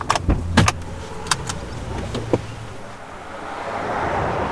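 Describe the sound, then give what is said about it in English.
A few sharp thumps and clicks, like car doors opening and shutting and people settling into seats, followed by a low, steady rumble building up as the car gets going, setting off from the 8 Mile's western branch toward its eastern side in Connecticut. “As we hop in a car and travel from the 8 Mile's western branch to its eastern side”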